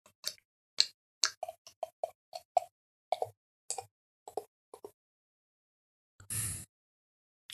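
Ratsherrn Küsten-IPA beer glugs out of a bottle into a glass in a quick, uneven run of hollow plops, ending with a brief rushing splash. No one speaks.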